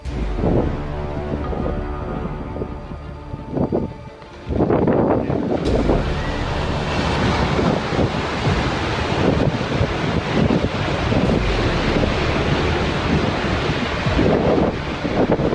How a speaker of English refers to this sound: The ice breaking off a huge glacier looked like a waterfall in slow motion. The breathtaking footage, along with the sound of the wind and ice crashing against the rocks, made the scene even more epic.